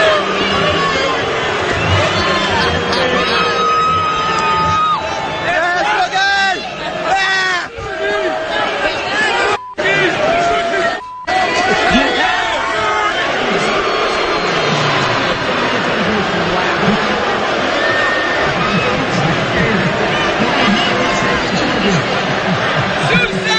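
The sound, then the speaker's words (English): A loud, dense crowd of about 20,000 at the Wing Bowl in Philadelphia's Wachovia Center roars continuously as Snooki comes out to meet and greet, with rhythmic chanting voices and jeering shouts swelling over a sustained wall of noise, broken briefly by a couple of abrupt dropouts. “So they bring out Snooki to meet and greet with the crowd. Well, here is the reaction Snooki got when she came out.”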